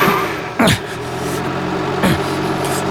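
A car engine rumbles steadily, with two sharp revs surging over the drone as the vehicle pulls away after a man jumps in to get away. No voices are heard.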